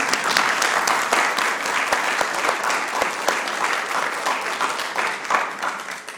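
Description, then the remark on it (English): A crowd applauds a male speaker at a break, many hands clapping in a dense, even patter for about six seconds at a fairly loud, constant level with no voices breaking through. “Why don't we give him a clap?”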